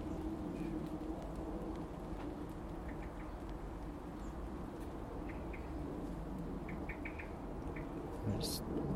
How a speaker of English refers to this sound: Yeah, it's raining now.